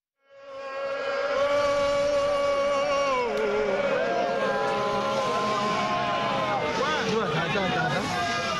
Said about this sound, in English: Vinso people of Cameroon's northwest region shout and applaud in the town of Kumbu. They came out to listen to a plea from their elders and palace notables to give a memorable welcome to their traditional leader, Mbinglo, whenever he returns.